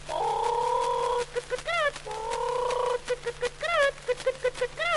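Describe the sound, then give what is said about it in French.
A voice imitates a hen clucking, with drawn-out wavering calls followed by quick bursts of short, clipped clucks. It is clear over a faint steady hum. “Là, une poule qui prend des œufs pour faire des omelettes au lard.”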